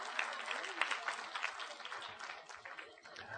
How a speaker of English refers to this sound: I go out to my van to get a shirt. Give my shirt an applause, will you? I think this is a pretty shirt.